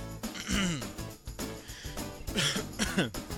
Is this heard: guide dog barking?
no